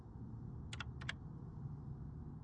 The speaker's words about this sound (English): It was nearly midnight, and all was quiet in Biotope City's police station. All, that is, except for the slow tap-tap-tap of Tuto's O'Malley's claws on his computer keyboard.